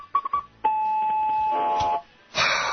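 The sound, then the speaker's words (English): A recording of dueling foghorns: three quick blips, then a long, steady, mid-pitched horn blast holding for over a second, followed after a short gap by a harsher, noisier blast. “dueling foghorn. You don't have it handy, do you? Oh, it's right here.”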